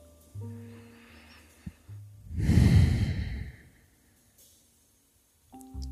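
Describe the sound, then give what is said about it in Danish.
A single deep breath during a yoga session, coming out of shavasana: a quiet nasal inhale followed by a long, loud, breathy sighing exhale through the mouth, with a soft sustained tone humming before and after. “Vi starter med at tage et par gode dybe vejrtrækninger ind igennem næsen og puste ud igennem munden med et suk.”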